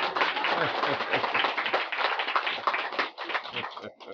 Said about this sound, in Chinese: 掌声鼓励。